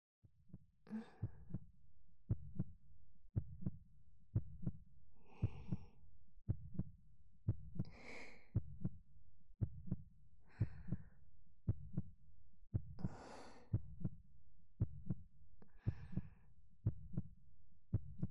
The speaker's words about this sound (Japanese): わかる？先生もドキドキしてるの。